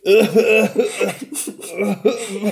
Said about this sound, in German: Ich bin ein bisschen heiser. Ich muss mich aber zum mal räuspern.